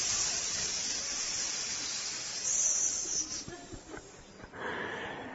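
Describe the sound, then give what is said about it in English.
A voice imitates hissing snakes in silos with a long, steady hiss, loud, swelling midway and breaking into shorter bursts before tailing off in a final hissing breath. “He started walking right toward them, and the snakes were hiss.”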